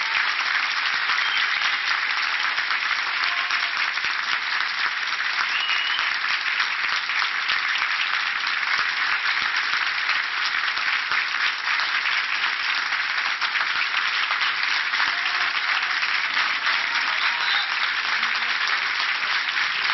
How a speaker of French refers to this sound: Applaudissements nourris, mais c'est un montage que j'ai fait, car effectivement, lors de la conférence de presse, il n'y a pas autant de monde,